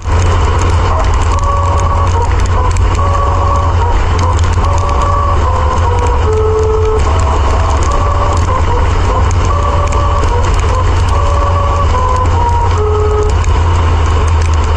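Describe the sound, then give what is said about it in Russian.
A car drives over a musical road whose surface markings make the passing car sound out a tune: a loud, steady rumble of tires and engine, with a hummed melody of distinct stepped pitches rising from the road surface for the whole drive. “В том, что наносится дорожная разметка таким образом, что ваша машина, проезжая, будет издавать звуки, похожие на соответствующую музыку.”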